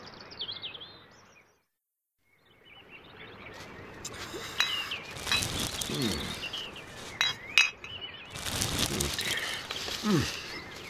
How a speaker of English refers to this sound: I'm taking the glass bottles and plastic bags out of the lake because they're dangerous for wild birds. I have to do this every week.